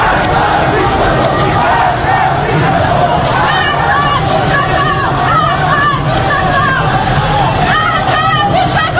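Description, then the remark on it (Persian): A large crowd in front of the Meghdad Basij base, the Tehran Basij command headquarters at Valiasr Square, Tehran, roars continuously, many voices shouting and chanting slogans together in a loud, dense, agitated mass that never lets up, angered by armed Basij members on the base's rooftop. “حالا دیگر مردم با دیدن چهره بسیجیان مسلح روی پشت بام پایگاه بسیج خشمگین می‌شوند و شعارها را تکرار می‌کنند.”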